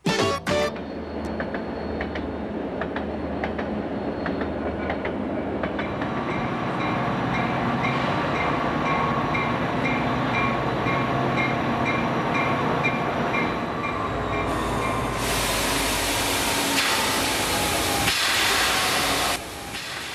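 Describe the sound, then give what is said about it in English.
A train rolls steadily along the rails for about twenty seconds, a continuous rumbling clatter with metallic squeals, and bursts of loud hissing steam near the end. No one speaks. “You know, trains are so much fun to ride that you're almost sorry to get where you're going.”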